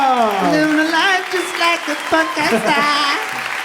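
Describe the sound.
Audience applause with loud cheering, several voices shouting and calling out in rising, sing-song tones over a steady bed of clapping for nearly four seconds.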